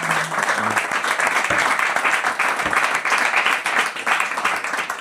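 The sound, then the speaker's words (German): Sustained audience applause, a dense, steady wash of many hands clapping at an even loudness for about five seconds, with no one speaking over it. “Bitte mal Applaus, ey.”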